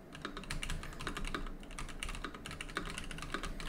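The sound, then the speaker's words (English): Rapid, continuous typing on a loud mechanical keyboard, with sharp clicky keystrokes clattering in an uneven rhythm throughout, with no talking. “My super loud mechanical keyboard here.”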